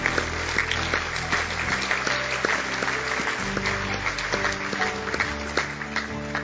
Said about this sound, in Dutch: Laten we even applaus geven, van het is toch een fantastisch werk.